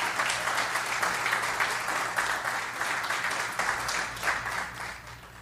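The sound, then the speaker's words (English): Steady applause from the hosts in the WCOM 103.5 FM radio studio, a dense, continuous wash of clapping hands that holds at an even, moderate loudness for the whole stretch, with no voices. “And that applause you just heard was actually us in the studio.”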